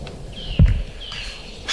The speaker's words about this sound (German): Er liegt wirklich links und mich nur diesem Habicht zu widmen, dessen laut Rufe gut vernehmbar sind.